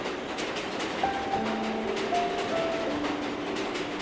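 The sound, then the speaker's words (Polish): A subway train in a metro system more than 100 years old rumbles steadily through the station, its wheels letting out thin, shifting squeals and faint rhythmic clicks over a loud, continuous roar. “Jesteśmy w metrze, a trzeba parasolkę, prawda?”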